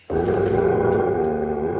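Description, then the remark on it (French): A dog in a cellar growls low and steadily, one unbroken rumbling snarl that starts abruptly and holds at full strength for nearly two seconds, with no voices. “Mais c'est pas mon cochon, c'est un chien!”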